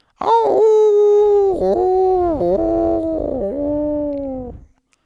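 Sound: wolves howling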